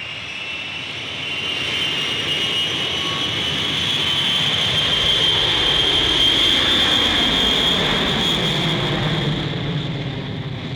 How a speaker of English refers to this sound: As the plane leaves the earth, many of the passengers turn their heads to look out the window.